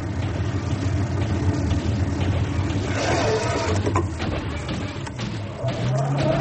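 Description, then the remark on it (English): A car engine drones loudly and steadily throughout, with a sudden harsh burst of noise midway as the car, just past a sharp bend on a quiet road, slams on the brakes and goes into reverse, then the engine keeps labouring. “Because I'm going to slam on the brakes and go into reverse.”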